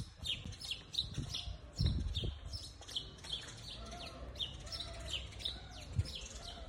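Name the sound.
birds fighting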